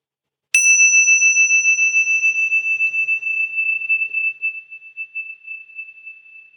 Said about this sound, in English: And then just notice the movement of the sound of the bell through time.